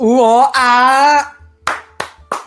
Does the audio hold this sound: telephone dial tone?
no